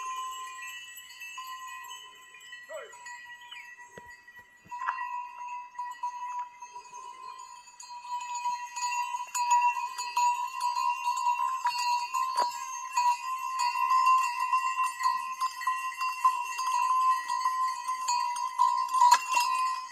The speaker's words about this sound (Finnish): Istuessani kirkon ulkopuolella kuului eläinten kauloissa olevien kellojen sointuvaa, jatkuvaa sävelmää.